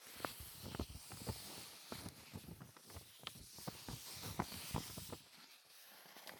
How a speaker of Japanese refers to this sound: コピー用紙もいい音する。